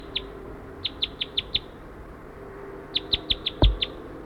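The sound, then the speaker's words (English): A wild bird that had flown to the net area calls in two bursts of quick, high-pitched chirps, first a run of five then another run of six or so, each note sharp and evenly spaced, with a brief thump between. “Pointed at the wild bird that flew to the net area.”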